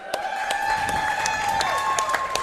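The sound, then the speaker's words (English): A lively crowd at Brewhouse 100 in Bellevue, at a Wednesday night Smashville Live show, applauds with scattered sharp claps, and whistles or shouts rise above a steady wash of cheering, sustained throughout. “Great crowd on hand here at Brewhouse 100 in Bellevue.”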